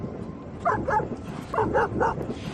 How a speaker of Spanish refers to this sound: Estos ladridos vuelven a sonar desde hoy en la playa de San Lorenzo.